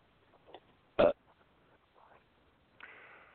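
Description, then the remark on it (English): A single short, loud belch bursts out, followed by faint rustling and low murmuring noises before a brief hiss near the end. “When ready, this belch is for you.”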